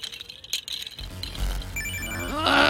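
A mobile phone rings with a shrill, steady electronic tone, soon joined by busy, layered music and effects that grow louder toward the end. No one speaks.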